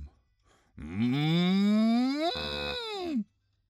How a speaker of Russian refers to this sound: Встречаем ее снова. Это кто? Корова? Корове улыбнусь, с коровой подружусь. У-у-у! Корова! Корова!